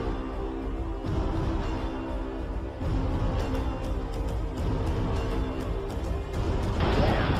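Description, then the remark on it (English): A massive, continuous roar of rushing water from a giant tsunami wave crashing into the Fukushima Daiichi nuclear power plant in Japan surges and churns for several seconds, loud, with sharp crashes and thuds breaking through the torrent and no voices. “A giant tsunami wave crashes into the Fukushima Daiichi power plant.”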